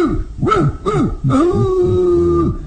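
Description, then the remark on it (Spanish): A large mastiff dog, Lucifer, gives a couple of loud barks, then lets out a long, drawn-out howling whine that holds steady before fading out. “Mi fiel perro mastín debe estar libre esta noche y habrá luna llena.”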